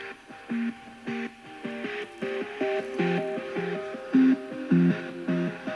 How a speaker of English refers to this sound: Let's try some chill out music. Play Brain Food music from Spotify. Brain Food from Spotify. And this is the Echo 4th generation.